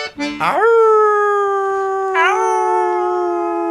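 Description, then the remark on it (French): A small dog howls in a city in two long, rising and sustained wails, loud, the second starting after a brief dip, with no one speaking. “La ville est bien trop grande pour ce tout petit chien.”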